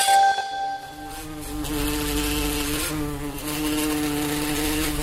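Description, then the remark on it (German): A big, fat bumblebee buzzes steadily for several seconds, a low droning hum with rich harmonics that wavers slightly in pitch as it flies, heard alone without any talking. “Eine dicke, fette Hummel.”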